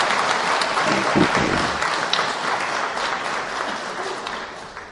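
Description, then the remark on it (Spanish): Steady audience applause fills the whole stretch, a dense crackle of many hands clapping at once, loud and sustained before easing slightly toward the end. The audience applauds the instructors on the right side to thank them. “Como ustedes son gente muy agradecida, por favor, ustedes ahora les dan un aplauso a los del lado derecho, para que ellos se sientan agradecidos.”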